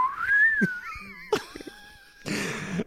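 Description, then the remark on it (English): A whistled tone slides gently downward in pitch, like a slide whistle, broken by a couple of short cough-like bursts and ending in a rush of breathy noise. “And just as he has his hands over his head, the pants just slowly slide down. Just a slide whistle.”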